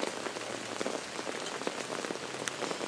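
Steady rain patters down on a surface in Southern California under dark clouds, a dense, continuous hiss of drops heavier than a drizzle, with no voices and a constant even loudness throughout.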